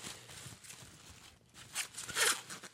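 Crinkly rustling of tissue paper being handled and pulled apart as an object is unwrapped, with scattered crisp bursts that grow louder toward the end, no voices.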